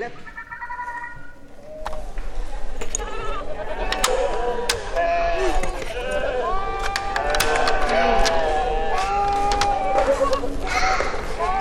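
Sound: sheep bleating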